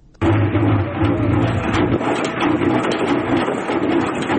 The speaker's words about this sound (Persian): این صدای ماشین عسل‌کشی در کوههای بلند اندراب است. کوههای پوشیده از گل و گیاهان رنگارنگ کوهی که بهترین محل برای پرورش زنبور در بغلان به شمار می رود.